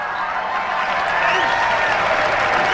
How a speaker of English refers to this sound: And the Bat Dog draws the biggest cheer so far today.